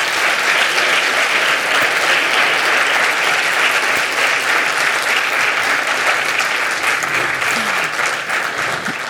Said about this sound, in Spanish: Así que vamos a darles un fuerte, fuerte, fuerte aplauso y bienvenidos.